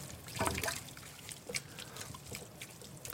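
Tomato broth, water with a lot of tomato paste, trickling and splashing into a pot, a steady pour of about a liter with a burst of sloshing early on, then a continuous gurgling dribble with small splashes.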